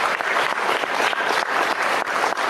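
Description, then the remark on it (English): Vigorous applause from a crowd, dense and steady for the whole stretch, many hands clapping at once with a loud, sustained texture. “Good vigorous applause, guys.”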